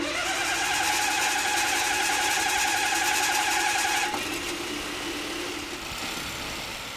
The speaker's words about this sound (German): Diesen sogenannten Hot-Test muss jeder 20. Motor über sich ergehen lassen, bevor er das Motorenwerk von Ford in Köln-Nien verlässt.